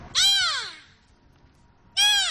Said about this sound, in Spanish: La pareja de belugas se comunicaba entre sí con sonidos parecidos a los delfines.